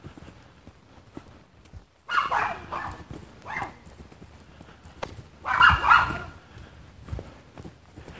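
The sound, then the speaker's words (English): A small dog yaps in a few short, high-pitched bursts, a quick cluster early on and another a few seconds later, with quiet pauses in between and no one talking. “Yuppy little dog. Yuppity, yuppity, yuppity.”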